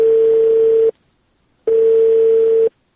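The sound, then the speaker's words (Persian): A steady, single-pitched telephone tone sounds in two long beeps of about a second each, separated by a pause, after a phone call is disconnected. No voices are present. “بله سیب، تلفون قطع شد.”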